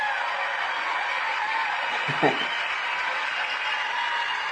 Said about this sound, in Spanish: qué feo se oyen los aplausos el día de hoy. Esperemos ya mañana tenerlos normales.